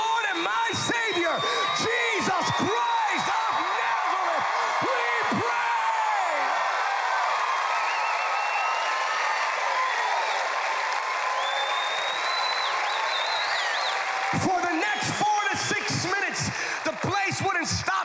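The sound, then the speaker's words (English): An audience erupts in loud, sustained shouting and cheering after a prayer in the name of Jesus, a dense roar of many voices with whoops and cries, with sharp bursts of noise at the start and again near the end. “Shouting. They couldn't stop.”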